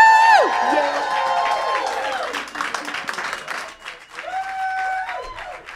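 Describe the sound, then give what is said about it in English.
A concert crowd at Stage 17 cheers and applauds loudly for a singer being introduced, with dense clapping and high whoops and shouts rising over a steady roar that stays strong throughout. “Stage 17, raise your Shiner Bock, make some noise for”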